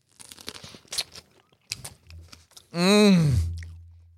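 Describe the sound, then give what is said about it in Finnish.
Several crisp, crunchy chewing bites in an irregular rhythm while tasting a food product with lemon inside, followed by a loud, drawn-out voiced sound that slides downward in pitch, like an appreciative groan while eating. “No niin, maistetaan.”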